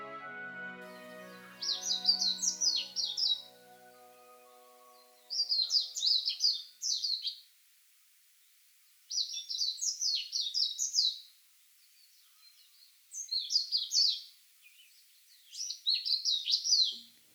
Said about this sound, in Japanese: それでも鳥たちは元気に鳴いていました。東京都文京区六義園のクスノキの梢から聞こえてきたのはメジロのさえずりです。